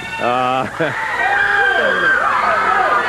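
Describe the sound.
A loud, continuous wash of high-pitched shrieks from girls in an audience during a haircut on stage, many voices overlapping in rising and falling wails, with one sharp, harmonic scream standing out at the start.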